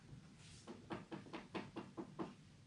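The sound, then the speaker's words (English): A steady run of about eight knocks on a hard surface, evenly spaced and fairly quick, sounding close but modest in volume, with no voices. “I'm knocking.”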